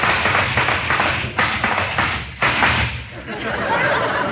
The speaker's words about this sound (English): Hark! Do I hear the sound of horses' hoofs?